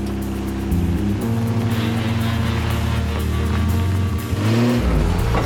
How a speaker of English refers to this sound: He turns the car around. It splutters and stalls.